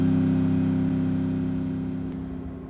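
A battered motorcycle engine starts and runs with a loud, steady rumbling drone, holding a low pitch and slowly easing off in volume as the rider heads southward. No voices.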